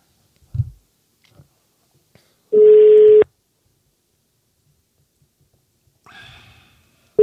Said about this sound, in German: Also irgendwo klingelt es ja gerade. Außer sie hat auf lautlos.